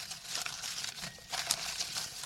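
paper slips rustling

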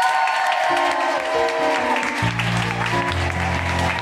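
audience applause

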